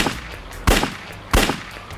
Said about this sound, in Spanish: Mientras caminaban por la calle, escuchó un disparo y Campbell cayó hacia adelante. Santiago dijo que se había puesto a cubierto. Luego vio a Barnes disparar 3 tiros más contra el postrado Campbell.